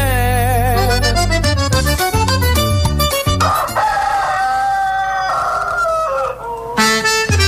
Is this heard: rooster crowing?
yes